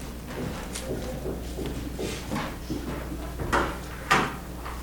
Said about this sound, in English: Would somebody mind closing the door over there, because there would be a lot of noise?